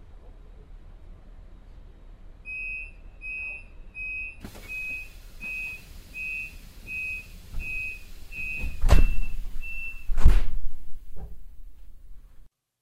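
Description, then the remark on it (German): A steady run of short, high-pitched warning beeps repeats about a dozen times over a platform hubbub at track 14 of a train station, followed by two loud thuds as the train doors shut before departure. “Vorsicht an den Türen und bei der Abfahrt des Zuges.”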